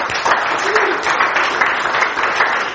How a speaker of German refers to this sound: Was für ein genialer Lobpreis, oder? Dem dürfen wir mal noch einen Applaus geben.